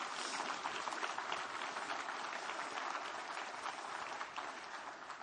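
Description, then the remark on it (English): Sustained audience applause, a dense, steady wash of many hands clapping at an even loudness for several seconds, tapering slightly toward the end, with no voices standing out. “Come on, give him a good clap off.”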